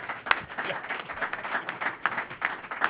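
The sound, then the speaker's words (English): A round of applause at a Valero Alamo Bowl event: many hands clapping in a dense, steady crackle with scattered sharper claps, sustained for the whole stretch at a moderate level with no voices. “How about a round of applause for Lamont?”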